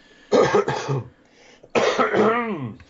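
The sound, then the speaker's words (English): Someone clears their throat, two quick rough bursts followed by a longer, gravelly clearing with a rising vocal tail, loud against an otherwise quiet background. “Hello, just clearing my throat there.”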